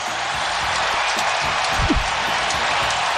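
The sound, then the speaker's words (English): A steady, dense roar of a stadium crowd at a Steelers–Colts football game after a Steelers fumble recovered by the Colts fills the whole clip, a broad hissing wash of many voices holding at an even, loud level with small flickers throughout. “A lot of crowd noise from JerMichael here.”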